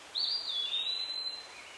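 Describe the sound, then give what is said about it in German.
Birdsong: one high, drawn-out whistling call that rises and glides for about a second, soft, over a quiet background hiss. “Die Vögel zwitschern.”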